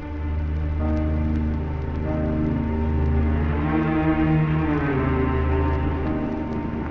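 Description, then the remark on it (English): A motor launch's engine drones loud and steady as it strains through billowing waves toward an island under rain clouds gathering for a squall, its deep hum laced with a constant watery hiss of spray and churning waves, with no voices. “Rain clouds were gathering for a squall as the motor launch strained through billowing waves toward an island looming on the horizon.”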